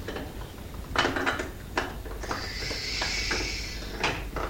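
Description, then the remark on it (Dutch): A door to a swimming pool is opened: a few clunks and rattles of the handle and latch, then a long, high-pitched squeal as it swings, ending in another knock. “Dan zou de deur open doen.”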